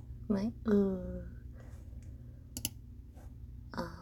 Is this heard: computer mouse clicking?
yes